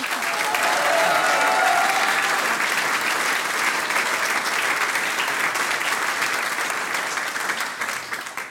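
Sustained audience applause for five young women performing traditional folk music, a dense steady wash of many hands clapping at a loud level for about eight seconds before it starts to thin out at the end.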